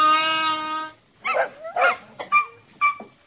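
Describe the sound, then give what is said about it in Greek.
Dogs bark: a long, drawn-out whining howl gives way to a quick run of four or five sharp, irregular barks and yelps, loud, with no voices. “Άντε τώρα, μαζεύτε και δρόμο, πριν χάσουν και τα σκυλιά την υπομονή τους.”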